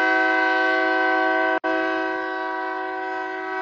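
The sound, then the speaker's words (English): A loud train horn blares in a long, steady chord, cut by a split-second break before sounding again and gradually fading slightly. No one speaks. “Well, the train agrees.”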